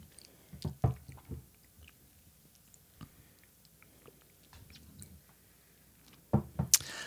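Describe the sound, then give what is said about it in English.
Quiet sips of West Cork blended Irish whiskey from a glass with wet lip and mouth noises, a few soft slurps and swallows spread over several seconds, ending with a slightly louder smack; no one speaks. “Okay, let's take a sip, and then we'll, because we have a story of this one.”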